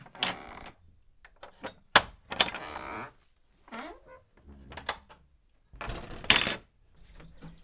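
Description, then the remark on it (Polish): A small key jingles with bright metallic clinks, then scrapes and clicks as it turns in the lock of a door leading from a house's main hall out to the yard, a series of sharp bursts separated by short pauses. “Jeszcze mały kluczyk.”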